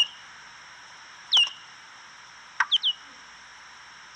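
A big brown bat's echolocation call, slowed down and dropped in frequency by a time-expansion device: a few short downward-sweeping chirps, one alone and then a quick cluster of three, sounding bird-like over a steady high hiss, with no voices.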